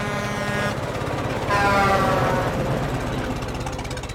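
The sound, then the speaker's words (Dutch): The truck Takel takes a run-up and races up a hill while honking: its engine roars steadily with a low rumbling drone, and a loud horn blast with bright tonal lines sounds midway through, rising over the engine before it continues. “Hij neemt een aanloop en raced toeterend tegen de heuvel op.”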